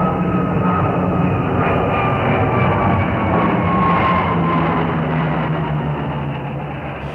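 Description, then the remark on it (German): A steady, loud engine roar of an airplane from a nearby airport flying over the city fills the whole recording, a broad continuous rumble with a faint tonal whine, easing off slightly toward the end. No one speaks. “Aber wir hören es kaum, denn ab und an fliegt ein Flugzeug vom nahegelegenen Flughafen über die Stadt und das Rotkehlchen ist doch wieder nicht zu hören.”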